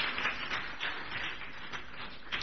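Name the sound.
audience clapping hands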